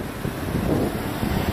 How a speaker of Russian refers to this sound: Влияние сильных ветров на калифорнийское побережье. Дорогая недвижимость под угрозой. Вы видите, друзья, да, разбушевалось синее море.